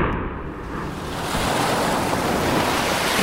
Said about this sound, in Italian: Stromboli, 8 aprile 2026, tempo nuvoloso, temperatura 14 gradi, vento da nord-ovest, mare mosso. È tre giorni che il mare è grosso